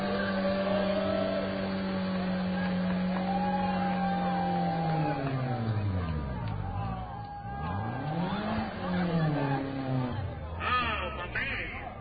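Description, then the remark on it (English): A car engine revs hard during a tire burnout on a track, the car's second try after leaking earlier, its pitch climbing, dropping and surging again in repeated sweeps, with a murmur of crowd noise underneath. “I think he feels we can do a better job destroying his tires.”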